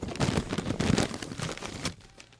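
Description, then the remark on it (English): Fairly quiet rustling and crinkling of paper sheets being shuffled as the wrong sheet is swapped for another, a busy run of dry crackles lasting about two seconds before fading out. “I'm sorry, this is the wrong paper.”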